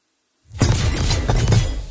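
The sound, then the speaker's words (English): A run of harsh metallic clangs of hammering from Fizzy's smithy begins after a brief silence and repeats at a steady, even pace, the blows evenly spaced and identical. They are loud, noisy and ringing, with no voices. “A series of metallic clangs emanated from Fizzy's smithy.”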